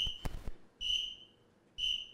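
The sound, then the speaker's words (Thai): A voice imitates the whistle signals of a parking attendant guiding a car at a restaurant: two shrill, steady whistle blasts about a second apart, loud, following a brief burst of noise at the start. “ออกไปปั๊บไปที่ร้านจะจอดรถเด็กโบกรถครับเขาจะมีภาษาของเขาครับ”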